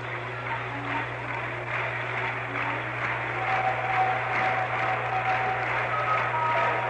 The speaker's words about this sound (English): Our fans want another run as they begin to clap as Cash waits to deliver McNally a big curve outside.